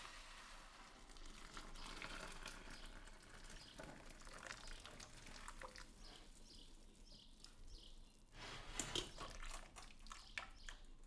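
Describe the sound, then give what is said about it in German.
Boiling water pours steadily through a sieve into a second pot with a continuous splashing rush, fairly loud, with a brief surge of spattering near the end. “Ich gieße das kochende Wasser durch ein Sieb in einen zweiten Topf ab.”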